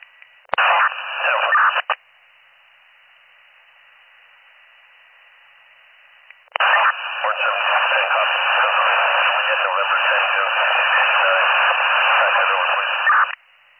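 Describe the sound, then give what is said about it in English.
Crackling radio static in two bursts, a short one then a long steady hiss, band-limited and harsh like a police radio channel, with a quiet low hum between them. “There's a lot of static.”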